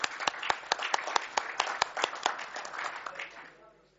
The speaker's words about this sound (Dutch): Applaus, dat vind ik ook, applaus, dat mag wel.